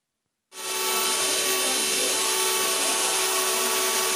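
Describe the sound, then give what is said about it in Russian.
After half a second of silence, a machine tool starts up and whirs steadily and loudly at a folk crafts competition in the Centre of Folk Culture of the Middle Urals, Yekaterinburg, a dense mechanical drone with faint tonal hums that holds unchanged to the end. No voices. “Вот так, под шум станка, звон коклюшек и веселые песни в Центре народной культуры Среднего Урала проходит 12-й всероссийский конкурс народных ремесел и промыслов «Данилушка».”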